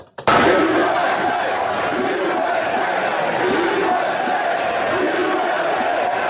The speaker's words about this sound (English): That is the crowd chanting USA as President Donald Trump shown on the big screen at the Jets game in Pittsburgh.